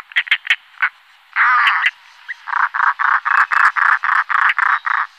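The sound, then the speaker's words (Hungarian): European roller calling: a few quick harsh notes, a longer grating rasp, then a steady series of about ten loud, rough, evenly spaced croaking calls, with no talking. “Hallgassuk meg tehát főszereplőnket, a szalakótát elsőként.”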